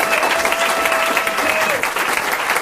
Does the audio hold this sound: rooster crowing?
no